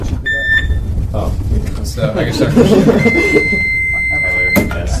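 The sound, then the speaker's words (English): Two electronic quiz buzzers sound as players in round 11 of the D1 ICT at the 2012 NEQT ICT, teams Chicago A and Minnesota A, buzz in to give their names: a short, high, bright tone, then a longer steady buzz over a second, over murmuring voices and noise. “You guys want to buzz in and give your name?”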